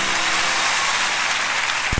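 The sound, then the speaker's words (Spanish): A crowd applauds for the Virgin Mary, steadily and fairly loudly, a dense wash of many hands clapping at once that holds for about two seconds, with no voices over it. “¡Fuerte el aplauso para María!”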